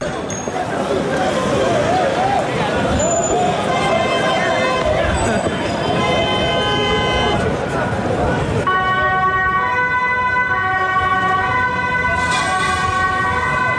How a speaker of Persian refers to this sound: صدای آژیر اورژانس و پلیس و بازداشت‌های گسترده. اینها محتوای مشترک ویدیوهایی است که از بعد از ظهر روز پنجشنبه از شهر آمستردام، پایتخت هلند، در شبکه‌های اجتماعی